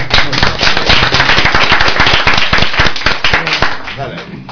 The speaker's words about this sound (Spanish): Nos ha gustado mucho, un aplauso.